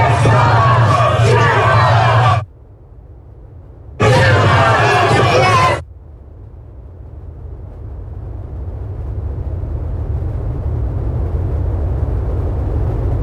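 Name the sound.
crowd of demonstrators chanting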